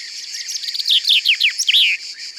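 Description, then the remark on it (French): A very common small songbird sings a brisk, energetic phrase of high whistled notes that tumble downward and speed up before a short flourish at the end, heard clearly with no voices. “C'est un oiseau très commun, au chant simple et facile à reconnaître.”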